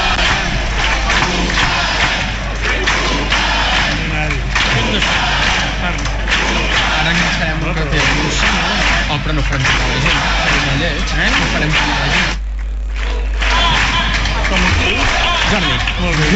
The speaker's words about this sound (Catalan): Doncs aplaudiments, dèiem, gent dempeus, al voltant de 500 persones, i ara crits de votarem a la plaça de l'Església de l'Espluga de Francolí.